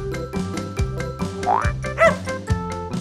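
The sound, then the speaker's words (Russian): A piglet grunts over and over in a quick, bouncy rhythm, fairly loud, with a couple of springy, cartoonish sliding tones mixed in. No one speaks. “Поросенок хрюкает.”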